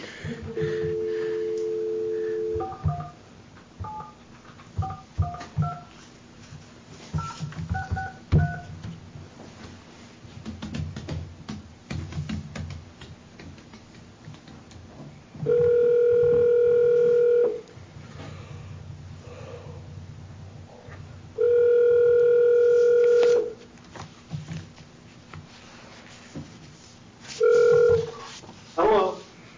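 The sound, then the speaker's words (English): A phone's dial tone gives way to a quick series of keypad beeps, then a steady ringback tone sounds in three long, loud bursts separated by pauses, over faint background rumble. “And he'll either be here in 15 minutes or I'm going to get him on the phone.”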